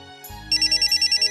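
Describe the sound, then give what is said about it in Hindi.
A phone ringtone for an incoming call from an old friend starts up partway through, a bright electronic tone pulsing in quick, evenly spaced beeps, loud, over a low hum. “अरे, ये तो मेरी पुरानी दोस्त कल्पना का फोन है।”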